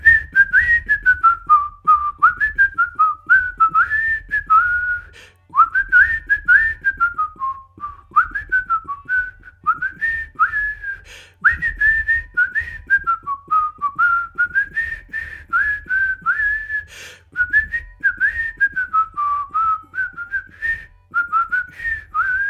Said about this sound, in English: I'm going to just look up that train music that's always going on. I'll have him whistle that.